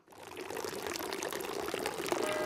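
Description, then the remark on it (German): Water from the village fountain in Brienz, in the municipality of Albula, splashes and pours steadily, a continuous bright, bubbling rush with no voices, holding a fairly even level throughout. “Das Brienz-Brenzalz läuft der Dorfbrunnen, die Kirchenglocke läutet und es fahren Postautos.”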